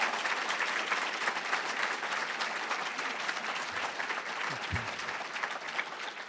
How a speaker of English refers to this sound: So how about a nice round of applause again? Thank you. Thank you.